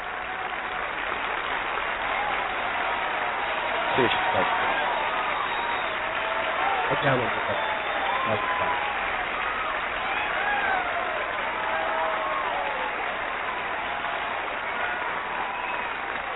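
Steady, dense applause from an audience runs the whole way through, a continuous even wash of clapping with faint voices and a few brief whoops rising above it.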